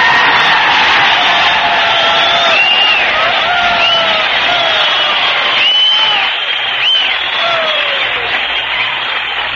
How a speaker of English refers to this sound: Wow! What whistling! What applause! I never thought the boys would be excited about County Creek, Oregon.